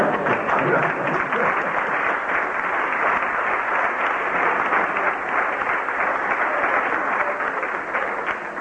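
Sustained audience applause, a dense steady wash of many hands clapping at a fairly loud, even level throughout, easing slightly at the very end.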